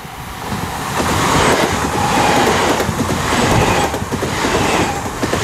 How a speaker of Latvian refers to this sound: Re, kur jau vilciens signalizē, esmu pārāk tuvu sliedēm, bet man citas ceļa īsti nav.